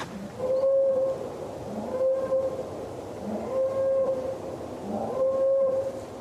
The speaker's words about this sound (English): Three men got out carrying big guns. Even bigger dogs were released. And then the woods all about me echoed with a strange mechanical sound. A boar call.